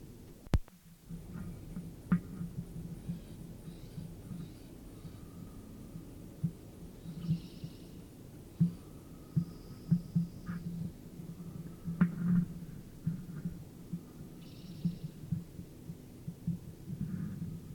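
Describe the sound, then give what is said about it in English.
Bird wings beating in flight, recorded at ten to eight: a steady low throbbing flutter of soft, rapid pulses that continues throughout, with a few faint higher tones drifting in now and then. “Flight sounds at 10 to 8.”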